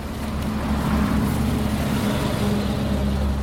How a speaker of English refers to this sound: I'm standing on the side of the road at a Colombian Agricultural Institute control point, set up to pull over trucks carrying bananas.